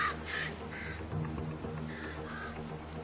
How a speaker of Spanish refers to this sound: Las fachadas de granito son un paraíso para las aves que se crían en las rocas, como estos cuervos comunes. Pero los polluelos están peligrosamente expuestos.